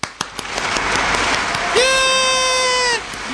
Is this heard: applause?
yes